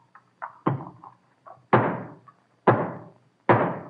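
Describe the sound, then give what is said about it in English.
A hammer drives the last nail home into the wood of a new state house, completing it: a few light setting taps, then three heavy, ringing blows about a second apart, loud with no talking. “But give me thy hammer.”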